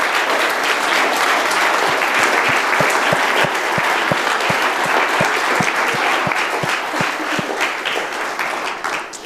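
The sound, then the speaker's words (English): An audience applauds steadily for everybody who helped make the event happen, many hands clapping in a dense, crackling wash with some sharper individual claps cutting through, holding loud and even before easing off slightly toward the end. “Okay, so I would like a special round of applause for everybody who helped out to make this happen.”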